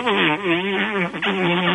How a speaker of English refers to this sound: Turn that off. I'm in the middle of a freaking romantic thing and you're playing fart noises? It needed a little pick-me-up.